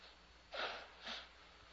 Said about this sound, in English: I don't want to sneeze, but I'll have to. Somebody do it for me. One thing I've been having trouble all week with. I know it's the dryness of the air or what it is.